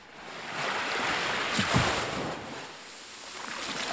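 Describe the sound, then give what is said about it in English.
Steady wash of surf on the beach at Anak Krakatau, a broad hissing roar that swells gently with one fuller wave breaking near the middle, with no voices. “On the beach back at Anak Krakatau, the day trippers are finishing their barbecues and packing for the boat ride back to the mainland.”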